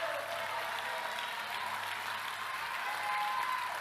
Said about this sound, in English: Is this good stuff? Oh, you got 15 of y'all clapping your hands.